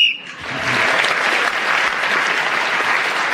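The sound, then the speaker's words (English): A short, shrill whistle blast sounds at the very start to end a round of a panel game, and loud applause from an audience immediately swells up and carries on steadily to the end. “Clement Freud was then speaking as the whistle went, gaining that extra point.”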